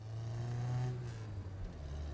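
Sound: car driving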